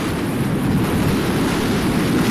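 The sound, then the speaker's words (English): Loud, continuous roar of rough sea water churning and crashing during a storm on the Sea of Galilee, mixed with heavy wind buffeting the microphone, steady with no voices. “I actually Googled storms in the Sea of Galilee. And I found this video clip.”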